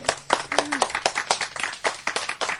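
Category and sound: human body sound, hand clapping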